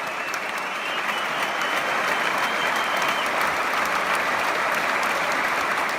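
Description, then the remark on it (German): An audience at the Saarländisches Staatstheater gives a standing ovation: loud, dense, sustained clapping from many hands, steady and continuous throughout with no voices standing out. “Standing Ovations, ja, die gibt es hier im Staatstheater öfter und sehr zu Recht.”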